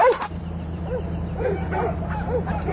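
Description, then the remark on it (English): Several dogs bark in short, scattered yips and woofs at a truck, over its steady low engine rumble, the barks repeating every half second or so. “Time to go home now, little doggies. Nothing for you in this truck, no food.”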